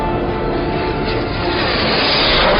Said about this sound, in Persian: جت فاکسی هدف رو پیدا کرد.